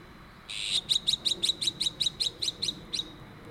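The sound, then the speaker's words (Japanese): An azure-winged magpie (onaga) call, played as the first of several candidate bird calls for comparison, comes in a fast, even series of about eleven short, harsh notes after a brief rasping onset, clear and fairly loud over a quiet background with no talking. “これらの声を一つずつ聞いて比べてみたいと思います。 はい、 まず最初にオナガ。”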